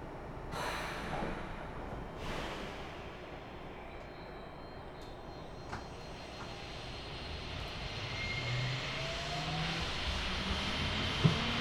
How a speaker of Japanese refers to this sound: まもなく2番ホームから門真市行きの電車が発車します。扉にご注意ください。 お待たせしました。門真市行き発車します。